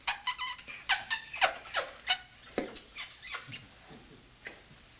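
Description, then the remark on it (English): A rapid run of wet, smacking kiss sounds made with the lips, about fifteen short bright pops in an uneven rhythm, fairly quiet with no talking. “You want to help me make kiss sounds?”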